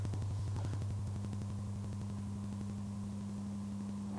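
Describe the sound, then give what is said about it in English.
A steady, unmodulated 100 hertz sine test tone drones continuously for the whole stretch, a low, unchanging hum with a faint buzzy edge and light static beneath it, no voices. “Okay, so we have a 100 hertz signal, and it's just on its own.”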